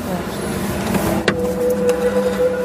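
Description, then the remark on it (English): A car's central door locks engage with one sharp, quick mechanical clunk over a steady low engine hum, followed by a faint sustained tone. “You've locked the doors.”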